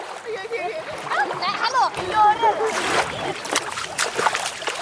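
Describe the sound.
Water splashes and sloshes in uneven bursts as a boy climbs out of ice-cold water at a cove on a summer-camp outing, with voices calling and talking over the splashing.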